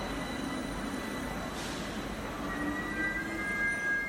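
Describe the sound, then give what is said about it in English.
A subway train rumbles along steadily with broad low-end noise, and high metallic wheel squeals ring out in the second half, growing louder toward the end. “By the way, I am at the subway.”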